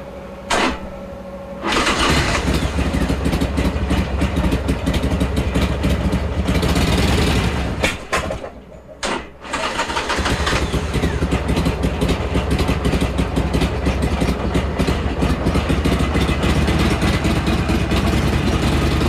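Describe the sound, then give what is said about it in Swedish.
A motorcycle engine, warmed up earlier that morning but still a little cold, cranks and fires up, then settles into a loud, steady idle with a deep rumbling tone, briefly dipping and catching again before running on evenly, right in front of the listeners. “vi har ju motorcykeln här framför oss och du har värmt upp den här redan i morse. Ska vi ta höra lite hur den låter?”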